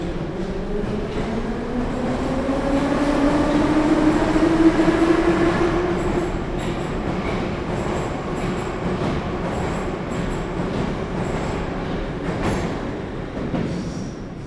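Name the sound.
moscow metro train running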